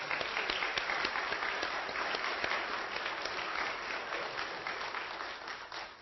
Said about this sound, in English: Matter of fact, let's just give them a quick round of applause.